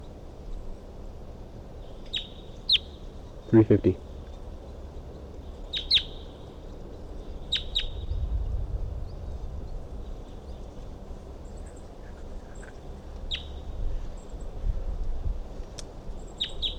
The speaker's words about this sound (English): So recording, I can see a wild bird perched up on the top of a dead tree nearby. And it was calling. That was 350.